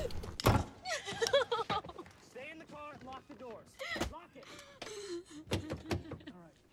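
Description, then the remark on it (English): A man holding a pistol and a torch goes up the porch steps and unlocks the front door of a house and pushes it open, with several sharp clunks and knocks of the latch and wood, mixed with tense breathing and murmured vocal sounds. “With an automatic in one hand and a torch in the other, Peter goes up the steps to the porch, unlocks the front door, and goes inside.”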